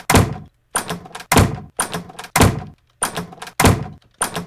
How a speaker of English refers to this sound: Now let's play with a door for a second. To enter the NS Studios. To enter.